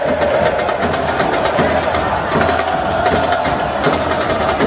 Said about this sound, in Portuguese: o goleiro Léo Jardim manda a bola lá para frente, a galera incentiva. A galera do Vasco incentiva querendo o gol da virada.